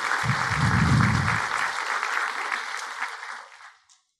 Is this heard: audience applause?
yes